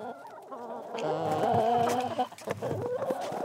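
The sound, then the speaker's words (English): Several chickens kept on a shared community property cluck and murmur together in a steady, overlapping chorus, moderately loud, with a few sharper calls rising out of the flock near the middle. “We check out the gardens and the orchard, the pond, the sauna, the bonfire pit, the chickens and all the goats.”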